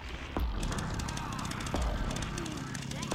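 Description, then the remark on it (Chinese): A few scattered footstep thuds in a video game, spaced irregularly and fairly soft, set against a dense, steady bed of game ambience and noise. “又有子弹，有脚步声喎”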